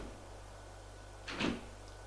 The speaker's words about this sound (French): La porte s'ouvre. Apparaît le grand-père.